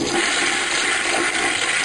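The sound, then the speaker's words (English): A toilet flushes loudly, a steady rushing swirl of water that fills the whole short stretch without letting up. No voices are present. “We're just flushing Turd. We just flushed Turd.”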